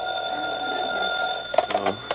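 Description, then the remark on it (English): A telephone in the hall rings at 3 o'clock in the morning with a steady, shrill electric bell tone that holds for a moment, then breaks into a few clattering bursts before stopping. It is fairly loud, with no voices. “3 o'clock in the morning and the phone rings.”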